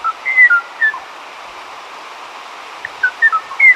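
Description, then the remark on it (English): A Kauai O'o, an extinct forest bird of the high, dense forests of Kauai, last heard in 1987, sings short, clear whistled notes in two loose clusters separated by a pause, heard over a steady background hiss like an old field recording. “the tranquil song of the Kauai O'o, a sound that once graced the high, dense forests of Kauai until 1987, when it was heard no more.”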